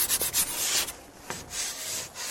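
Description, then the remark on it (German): A classroom blackboard being rubbed: a quick series of dry, hissy wiping strokes, then a single sharper scrape and a softer, steady brushing that fades out. No one speaks. “Apropos Tafel, dies ist unser nächstes Geräusch.”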